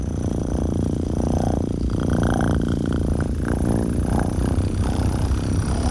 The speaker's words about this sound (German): wenn meine Katze auf meinem Arm ist und mir volles Rohr ins Ohr schnurrt.